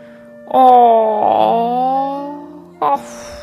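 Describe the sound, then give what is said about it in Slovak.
Dunčo the dog wakes up in the morning as the sun comes out and yawns with a long, drawn-out whining tone that slides slowly downward in pitch, then ends in a short, sharp squeak. Fairly loud, and alone with no talking. “No a aj dnes, keď vyšlo slniečko, sa Dunčo prebudil a zívol.”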